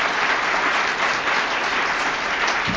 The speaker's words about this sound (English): So please give the panel another round of applause.